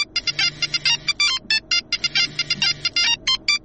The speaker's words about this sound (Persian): صبر کن که من تلفن جواب بتم.